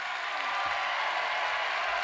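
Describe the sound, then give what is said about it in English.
Steady audience applause fills the whole stretch, a dense, even wash of many hands clapping at a constant level with no voices standing out, as the band a band is introduced for the 2183rd performance of their career. “Thanks for that warm round of applause.”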